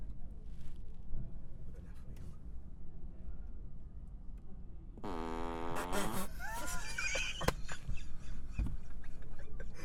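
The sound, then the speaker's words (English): A car plays a fart sound effect on demand at the press of a control: after a few seconds of low engine rumble, a loud, buzzy, wavering blast rises and falls in pitch for several seconds, ending in squeaky sputters. “It said it can play fart sounds.”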